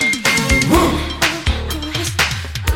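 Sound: dog barking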